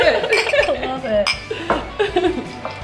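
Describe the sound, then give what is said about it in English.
A bright glassy clink rings out once amid several people chatting and laughing, like glasses touched together in a toast. “Well, cheers.”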